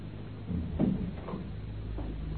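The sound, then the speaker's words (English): A servant pushes a door shut at his employer's order with one dull, muffled thud, followed by a softer knock or two as it settles, over a steady low background hum. No one speaks. “Just shut the door.”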